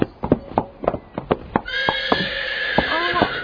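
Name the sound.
horse neighing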